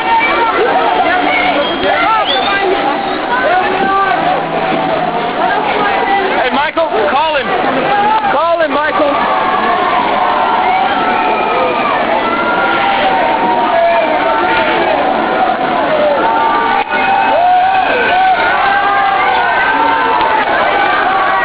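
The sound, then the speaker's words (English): A dense, panicked crowd at a peaceful protest in South Africa shouts and cries out continuously as people scatter and run after very loud explosions, with overlapping voices and hurried running, punctuated by a few sharp bangs cutting through the steady din. “Sheer pandemonium and panic, some very, very loud explosions, really quite frightening. Everybody scattered and ran, and now they're trying to regroup people.”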